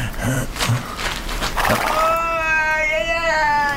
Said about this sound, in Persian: یه صدای عجیبی نمیاد؟ نه، چه صدایی؟ یه صدای شبیه فریاد یه میمون.